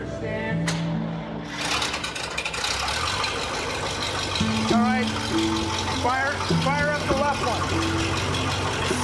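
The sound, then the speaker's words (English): A car engine starts up with a sudden whir and settles into a loud, steady idle, with a few rising revs toward the end, as people peer into the engine while it warms up to operating temperature. “They peer into the engine as it whirs into life.”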